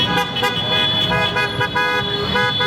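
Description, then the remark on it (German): Car horns honk continuously on the Champs-Élysées in Paris after the France–Morocco football match, overlapping blasts blaring loud over a steady rumble of traffic and crowd noise, with no clear speech. “Hupende Autos, Böller und immer mehr Menschen.”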